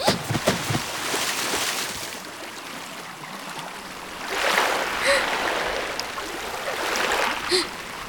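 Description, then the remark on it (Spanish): Steady rushing river water fills the scene, a broad continuous wash with swelling surges and occasional splashes, heard from underwater during a breath-holding contest. “A ver quién aguanta más tiempo abajo del agua.”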